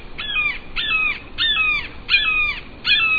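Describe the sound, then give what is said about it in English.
An unseen red-shouldered hawk, perched in a nearby stand of trees just beyond a river's edge, calls repeatedly, five harsh, slightly descending screams in a steady rhythm about every two-thirds of a second, fairly loud, with no voices. “The hawk calls again, yet remains unseen.”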